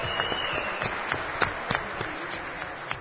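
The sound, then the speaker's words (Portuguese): An audience at a public hearing applauds steadily for a few seconds in honour of attendees from Santa Catarina, a dense patter of many hands clapping at moderate volume with a few sharper claps standing out, no voices over it. “Uma salva de palmas para os catarinenses aqui.”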